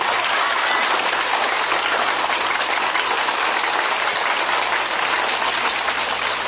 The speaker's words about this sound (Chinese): 现在让我们以热烈的掌声欢迎我们